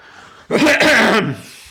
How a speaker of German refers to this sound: Jetzt habe ich auch eine Räuspertaste gerade mir gemacht. Ich habe eine Räuspertaste gebastelt. Das heißt, wenn ich wieder husten muss, kann ich es leise machen.